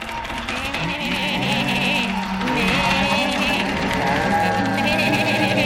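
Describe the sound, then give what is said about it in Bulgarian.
Sheep bleat over and over in a loud, overlapping chorus, as if a whole flock is calling at once, steady for several seconds with no talking. “Слуги, веднага изведете всички овце да накарат да млъкне този ужасен петел, да млъкне.”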